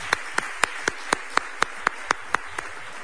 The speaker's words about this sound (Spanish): Ahora sí, venga, el aplauso para … y su guitarrista, gracias.